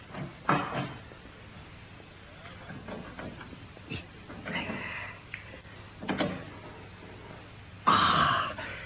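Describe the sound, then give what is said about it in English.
A cabinet door is worked open, with a scatter of soft clicks and knocks over several seconds, then a brighter scraping creak at the end; the cabinet holds bundles of letters. “Open, Watson. You've done it? Yes. Look there. Bundles of letters in here.”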